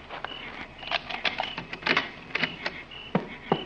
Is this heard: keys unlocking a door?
yes